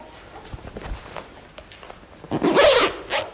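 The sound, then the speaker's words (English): A person zips themself into a heavy protective suit. The heavy zipper is pulled up in a single long, rasping stroke, fairly loud, preceded by a few soft rustles and clicks of thick fabric. “Zip myself in.”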